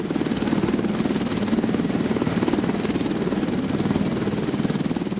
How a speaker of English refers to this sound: The EC-130 helicopter has been named Spirit of Mercy and is available 24/7.